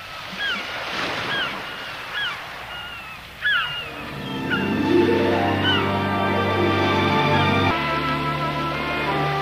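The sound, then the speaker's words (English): Ocean surf washes in a broad, rushing hiss while gulls cry overhead; after a few seconds, lush sustained music rises and carries on over the fading waves. “If you've ever taken a course in relaxation techniques, one of the listening aids often used is the sound of a gentle rain or wind, or more than likely, the sound of the ocean.”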